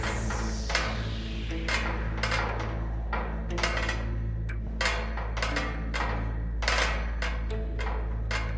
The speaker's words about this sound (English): I certainly will. Here we go. Up the ladder we go.